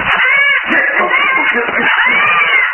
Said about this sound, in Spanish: Gigantesco buitre se posó sobre las rocas. Lanzó graznidos furiosos. Agitó sus enormes alas.